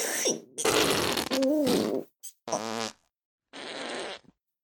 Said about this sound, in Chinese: 长达十分钟的恐怖放屁终于落下了帷幕。